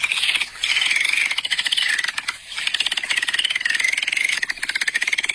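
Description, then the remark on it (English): Dolphin sounds: rapid, buzzing click trains with high, wavering whistles laid over them. They run almost continuously for several seconds, fairly loud, with two brief dips, and no voices. “It's a dolphin. Porpoise.”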